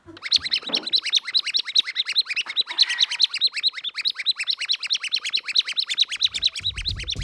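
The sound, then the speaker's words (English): A squeaky bird box toy chirps rapidly and steadily, a continuous high twittering of many quick tweets that stays loud throughout, with a brief low thump near the end. “I made the bird sound, the squeaky bird box.”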